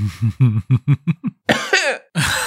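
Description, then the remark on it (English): A quick run of short voiced bursts that fade in strength, then two harsh, breathy coughs, fairly loud, with no talking. “Very adorable cough.”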